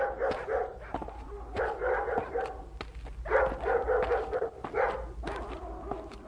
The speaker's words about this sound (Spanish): Después de tantas horas de caminar sin encontrar ni una sombra de árbol, ni una semilla de árbol, ni una raíz de nada, se oye el ladrar de los perros.